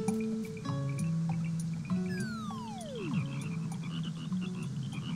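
Frogs croak steadily in a chorus near a pond, with repeated low calls and higher chirps overlapping, while a descending whistle-like call sweeps down partway through. No one speaks.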